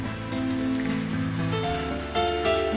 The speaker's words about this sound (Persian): این همون کاریه که گاهی وقتا من وقتی بارون میباره میکنم. دستمو میگیرم زیر بارون